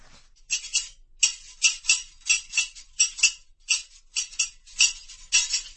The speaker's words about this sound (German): In der Gasse hörte man sein Scherengeklapper.